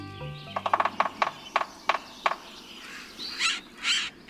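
A sapsucker taps out an uneven series of sharp knocks that slow and trail off, followed by three drawn-out, nasal, cat-like squeals. No one speaks.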